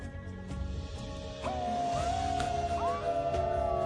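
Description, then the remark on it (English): Dogs howl together in a long, sustained chorus that begins partway through, with pitch swooping upward in places over a steady low rumble of background noise. “We howl all the time to communicate.”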